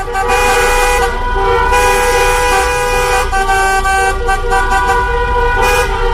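car horns honking

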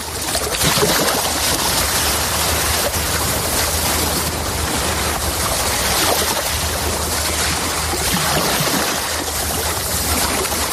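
sea waves

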